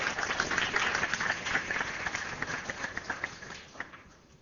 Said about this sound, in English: So if we could please get a round of applause